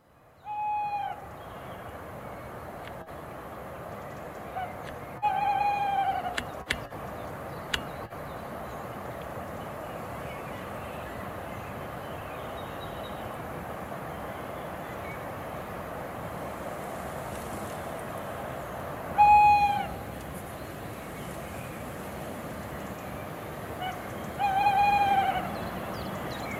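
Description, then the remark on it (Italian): A lone tawny owl hoots four times at long, irregular intervals in an old forest at night, each call a clear, mellow tone carrying over a steady low rumble of night ambience, with no voices present. “Solamente un allocco solitario ogni tanto sospira.”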